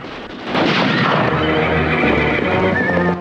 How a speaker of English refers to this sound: Ben and Rick have climbed onto a pair of horses and gallop through a barn. They fire their pistols, spooking a herd of other horses and sending them running across the yard.